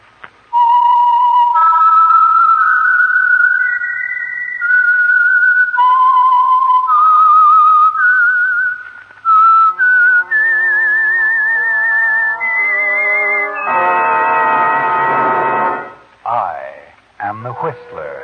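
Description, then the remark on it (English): A loud, clear whistled melody of sustained pitched notes, stepping up and down in a tune, joined near the end by orchestral accompaniment before fading out: the signature whistle identifying the Signal Oil radio program The Whistler, a Sunday evening broadcast. “And for Sunday evening listening pleasure, the signal to listen for is this whistle that identifies the Signal Oil program, The Whistler.”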